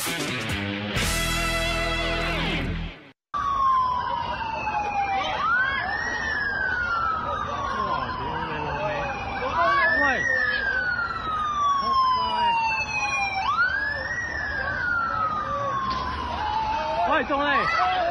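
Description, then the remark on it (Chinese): A police car siren wails in repeated rising and falling sweeps, loud, over a dense rumble of street noise after a brief burst of other sound and a sudden cut at the start. “警车 车埋 ，Oh shit！”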